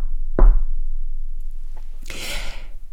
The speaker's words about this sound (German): Doch plötzlich gefror sein Grinsen, als es an der Tür laut klopfte. Tock, tock.